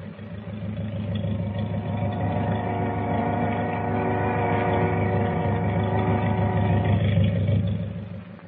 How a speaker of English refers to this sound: Wait a minute. What's that? Sounds like motors. It is. Hey, the boat's moving. She's pulling out.